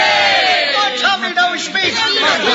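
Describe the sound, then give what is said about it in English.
A crowd of many voices shouts a loud, sustained "Hip, hip! Hooray!" cheer in unison, energetic, with overlapping yells swelling and dipping across the whole moment. The crowd is cheering a benefactor whose money built a school for homeless boys. “A cheer for Tommy Malone! Hip, hip! Hooray!”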